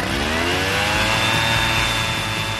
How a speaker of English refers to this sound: Hey, check out this awesome leaf blower I got!